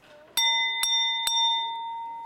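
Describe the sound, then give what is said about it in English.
A wine glass struck three times in quick succession, each tap adding to a clear, high, bell-like ring that holds steady and slowly fades after the last strike. “One of my other favorites for making sound is the wine glass.”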